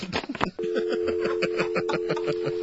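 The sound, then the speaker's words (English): A brief burst of voices cuts off as a phone call is hung up, then a steady, unbroken telephone dial tone hums through to the end, with people laughing and talking over it. “You're going to hear a dial tone.”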